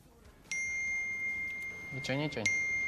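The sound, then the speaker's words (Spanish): Bright WhatsApp message notification chimes ring out from mobile phones just taken out of a box, announcing accumulated messages. One chime sounds at about half a second and another near the end, their tones lingering and overlapping, with a brief burst of voices just before the second chime. “Esto, todos los WhatsApps que teníais ahí acumulados, ¿no? Sí, conversaciones y conversaciones.”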